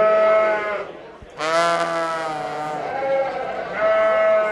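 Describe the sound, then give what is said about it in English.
Several sheep bleat loudly in quick succession in the sheep barn at the South Dakota State Fair, long wavering baas overlapping one another, with a busy crowd murmur behind them. “Down the midway from the sheep barn, past a couple of corn dog and funnel cake stands”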